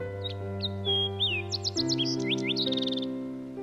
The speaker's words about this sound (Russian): Рядом красиво запела незнакомая птичка, усиливая это чувство.